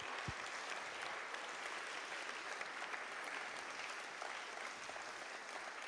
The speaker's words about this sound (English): If you're a school teacher, would you just stand up? Wow. Let's give them a clap. Come on. And in the balcony as well.